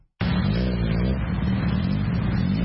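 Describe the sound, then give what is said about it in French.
A motorcycle engine starts abruptly and runs loudly and steadily, with a rough rising drone that swells slightly as if revving, set against the busy, crowded streets of Nairobi, Kenya. “Il est pratiquement impossible de repérer une femme au guidon de Bouddha Bouddha ou autre moto qui sillonne les rues encombrées de Nairobi.”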